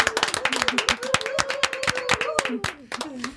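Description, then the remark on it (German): A small group from Wurzen gives itself brief applause, dense irregular claps crackling for a few seconds while a voice carries on underneath. “Ja, wir können uns auch kurz einen Applaus geben.”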